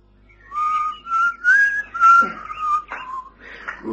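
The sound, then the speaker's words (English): Someone whistles a short, wandering tune while walking down a road on a bitter cold night, several sustained notes sliding between pitches with brief breaks in between, clear and fairly loud with no talking. “Well, I was walking down the road whistling to myself, you know, thinking what a bitter cold night it was”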